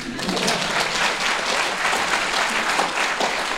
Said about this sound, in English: I don't know how to follow that, so I'm just going to tell you to clap.